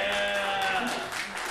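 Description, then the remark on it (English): An audience at a music performance claps steadily for a short stretch for a musician who plays an eight-string instrument tuned like a fiddle, a dense crackle of many hands, with sustained whooping tones from cheering voices layered over it. “Give him a round of your applause.”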